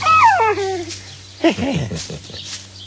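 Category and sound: animal, dog whimpering and yipping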